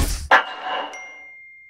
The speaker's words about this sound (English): Your phone hasn't stopped beeping since Monday, Elliot. It just beeped as we tried to start recording this podcast.